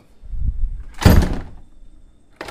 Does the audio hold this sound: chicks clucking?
no